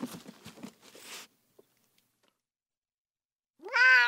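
cat meowing

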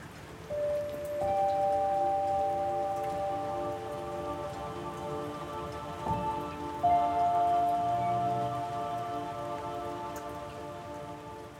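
rain falling

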